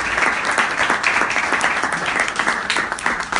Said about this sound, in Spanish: ¡Aplaudan, mierda! ¡Aplaudan!